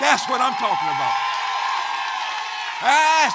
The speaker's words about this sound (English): Everybody stand up. Let me see how y'all can applaud, give an applause. Not for the team. I'm talking about for our apostle.